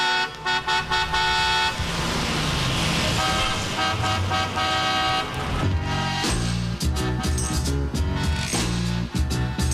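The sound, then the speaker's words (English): Car horns honk loudly and continuously on Highway 20, several overlapping blasts layered over dense traffic noise, with a choppier, rhythmic stretch of honking toward the end. No one speaks. “As a matter of fact, I can hear the cars right from Highway 20.”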